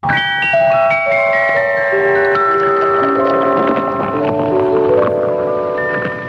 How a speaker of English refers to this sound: The sound of good taste. That's Iron City beer pouring cold and clear into a frosty glass.